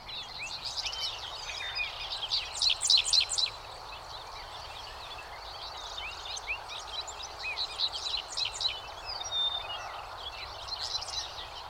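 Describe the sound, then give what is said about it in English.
A dickcissel sings repeated bursts of sharp, buzzy chirps in the foreground while many other birds sing around it, all over a steady low rumble of traffic from a busy highway out beyond the fields. “The following recording is dominated by a dick thistle, but there are many other birds singing, plus a busy highway out beyond the fields.”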